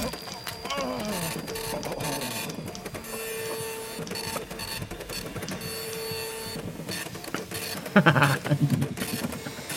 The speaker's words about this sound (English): Would you listen to that? A self-piloting typewriter. An unexpected development indeed.